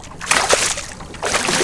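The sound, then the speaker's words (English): A fishing net is thrown into the water on the right side of a boat, making two broad sloshing bursts with a brief lull between them. “Throw your net on the right side of the boat and you will find some. We did.”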